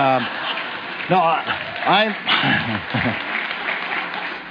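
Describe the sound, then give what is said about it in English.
A church crowd applauds the worship team steadily, a dense wash of clapping hands, while a man's voice speaks over the applause partway through. “I hope you're clapping there for the worship team.”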